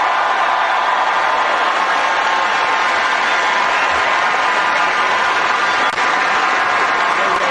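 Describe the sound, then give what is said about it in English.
A large crowd of college students breaks into loud, sustained applause, a dense and steady clatter of clapping that holds its level for the full seven seconds with no talking over it. “Big applause from college kids.”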